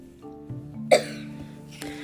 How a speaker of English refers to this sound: Little kitty, do you have a cough? Mm-hmm. Okay. So the... Hairball. Oh, hairball. Oh, excuse you, little kitty. Hairball.